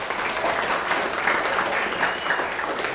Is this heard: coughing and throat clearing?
no